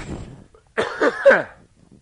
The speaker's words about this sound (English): Excuse me, I've got a cough.